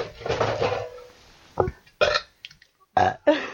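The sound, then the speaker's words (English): A long, drawn-out burp rumbles for about a second, followed by a string of four or five short, abrupt burps in quick succession, all loud with no talking. “I can burp.”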